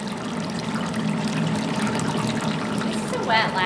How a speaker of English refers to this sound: Moat now has two land-based nurseries in the Florida Keys where coral are bred and raised in shallow tanks where salt water constantly circulates.